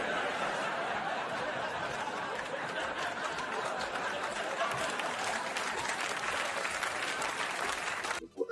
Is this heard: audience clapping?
yes